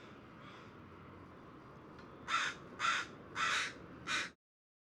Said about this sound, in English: So there was a lot of whitewash near one of the taller trees too, so I assume a bunch of these birds probably roost in here as well.